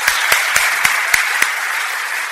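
An audience applauds steadily for a couple married 45 years, a dense wash of many hands clapping, with a few sharper, louder claps standing out at a regular rhythm. No one speaks.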